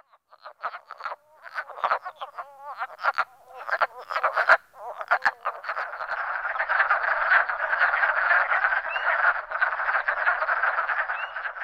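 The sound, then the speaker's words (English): A chorus of wood frogs croaking at a vernal pool, rapid clucking calls overlapping in an irregular rhythm at first, then merging into a dense, continuous chuckling din. Fairly loud, with no talking. “Wood frogs.”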